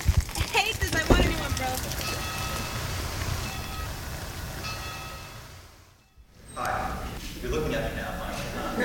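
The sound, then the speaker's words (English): Steady, dense hiss of heavy rain pouring down in Providence, filling the whole clip with a continuous wash of noise that briefly drops out, while voices murmur faintly underneath. “It's really raining.”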